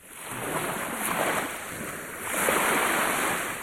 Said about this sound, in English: To some people in the world, this sound is turbulence right now. I live right next to the water. When the waves come, they're usually way over the seawalls that a lot of people have built across the seashore.